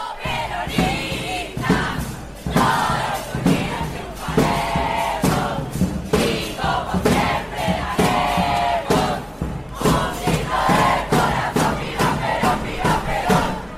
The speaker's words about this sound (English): really well-known high school in Buenos Aires called the Carlos Pellegrini School. And they were outside till like 4 a.m. Chanting and cheering as they were waiting to find out who was going to be the student body president elected for the next year.